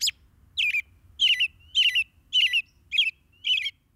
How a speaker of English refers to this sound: But the most extraordinary measure of robin's song is its variety. In each song, a robin sings a varied selection from a repertoire of 10 to 20 different caroling phrases.